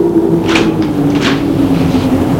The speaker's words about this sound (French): Elle sort de voiture. Ouvre le coffre.